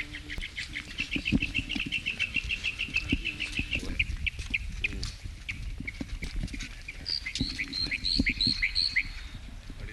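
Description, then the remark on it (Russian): A small bird sings a rapid series of high, repeated chirps, then a brighter warbling burst near the end, over a busy low background of rustling and shuffling noise. “Маленькая птичка.”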